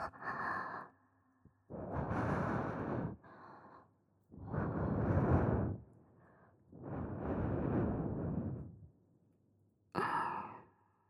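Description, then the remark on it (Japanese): Slow, airy breaths blown very close to the ear, several long soft exhales in an unhurried rhythm with brief quiet pauses between them, and no talking. “お耳から吐息を”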